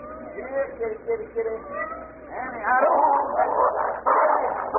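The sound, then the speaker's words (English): Small kittens cry and mew in thin, high-pitched wavering calls, a few at first, then several overlapping cries that grow louder and more insistent. “Stop your crying, kittens.”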